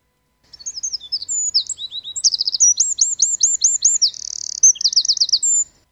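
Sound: european robin singing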